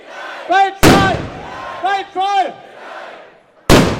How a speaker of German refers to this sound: Pünktlich um 11.11 Uhr fallen hier 11 Böllerschüsse und das heißt, die Fastnachtssaison ist offiziell eröffnet. Hunderte Närrinnen und Narren stehen auf dem Buttermarkt in der Fuldaer Innenstadt und feiern den Start der neuen Kampagne.